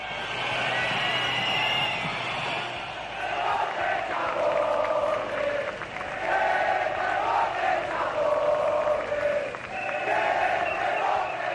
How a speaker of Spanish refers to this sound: A diferencia del año anterior, Pedro Sánchez no hizo esperar al rey para usarlo de parapeto y se comió de par en par los abucheos del respetable. Abucheos que fueron tan evidentes que no hubo retransmisión institucional que los pudiera ignorar.